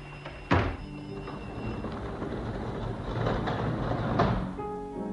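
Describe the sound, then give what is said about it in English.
A front door opens with a sharp, heavy thunk, followed by a steady rushing noise and a second softer knock near the end, with no voices. “Through the front door. You opened it.”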